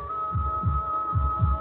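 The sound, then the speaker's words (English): A human heartbeat thumps in two deep lub-dub pairs, low and muffled, over a steady background hum. No one speaks. “My own heart beating.”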